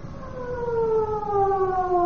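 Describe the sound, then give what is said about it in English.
A loud, steady standby warning siren sounds on its own at a rocket station before a rocket firing, its sustained tones slowly sliding downward in pitch over a couple of seconds, with a faint low rumble underneath. “With the sounding of the siren, a tense atmosphere descends over the whole station.”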